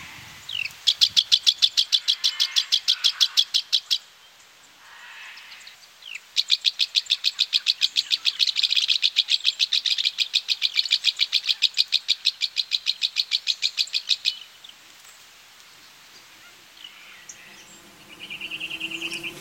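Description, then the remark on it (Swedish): Brown-headed honeyeater calls outside Canberra, Australia: rapid, high chipping notes strung into two long, steady bursts, clear, with fainter birdsong trailing at the end and no voices. “Australien utanför Canberra hörs brunhuvad honungsfågel.”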